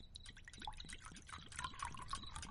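Water pours and splashes steadily in a kitchen to wash someone's hands, with quick bubbly glugs and small drips repeating across the whole stretch, fairly quiet, with no one speaking.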